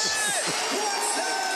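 Loud shouting and cheering ring out amid a noisy arena crowd, with excited voices rising in short bursts over a constant roar of background noise.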